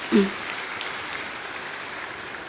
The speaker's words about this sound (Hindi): और हमारे मंच पर जो उपस्थित हमारे परम आदरणीय बहनें, दीदियां, दादियां जो भी उपस्थित हैं, आप उनके स्वागत में एक बार जोरदार तालियां बजाएंगे।